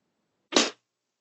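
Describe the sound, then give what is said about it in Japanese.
A single sharp whip crack snaps out of near silence, a sudden bright burst that dies away quickly. No voices are heard. “そう、鞭の音。”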